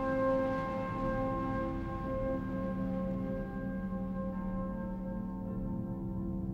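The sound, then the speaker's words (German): Church bells ring out in a sustained, resonant drone, their layered tones hanging in the air while the brighter overtones slowly fade. No one speaks. “Die Glocken.”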